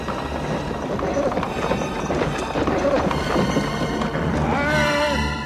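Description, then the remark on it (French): Steady clip-clop of hooves from a horse-drawn carriage pulled by black horses as it approaches, fairly loud, with a dense rumble underneath and a brief tonal whine near the end. “Une calèche vient vers nous, tirée par des chevaux noirs.”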